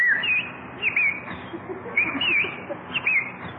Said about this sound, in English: Oh, Jack, look at that beautiful bird on your lawn. Ah, look, he's hopping over to us. Come on, Birdie. Come here.